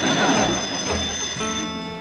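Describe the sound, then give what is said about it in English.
A telephone on a pole rings continuously and fairly loud, a steady metallic bell tone over a hissy, noisy background, with no voices. “Well, keep on ringing, Sarah.”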